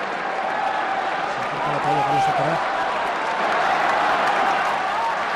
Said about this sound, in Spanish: Aplaude todo su palco, está aquí toda su familia.